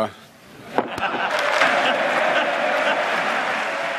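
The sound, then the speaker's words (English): A sudden sharp pop gives way to a dense, steady wash of clapping from many hands, sustained and fairly loud, with voices mingled in: lawmakers in Congress, including Republicans, applauding Joe Biden's 2017 ruling on an objection to the election vote certification. “Lawmakers in Congress, including Republicans, applauded that ruling by Joe Biden in 2017, and that election was certified after a short time.”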